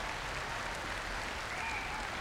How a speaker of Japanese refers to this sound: それではもう一度温かい拍手を皆さんお願いいたします。